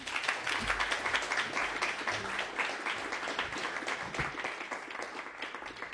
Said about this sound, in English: Let's welcome her with applause.